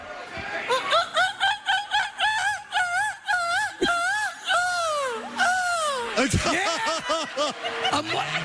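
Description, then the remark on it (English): A man's voice imitates a seagull: a rapid string of short, rising squawks, then longer swooping cries, ending in fast wavering yelps. “Your best seagull, please.”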